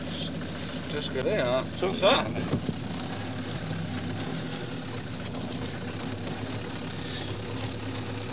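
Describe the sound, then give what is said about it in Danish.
An older Mercedes panel van's diesel engine runs at a steady idle, a low continuous rumble, with a brief burst of indistinct voices near the start. “Hvad er det for en vogn? Det er en ældre Mercedes kassevogn”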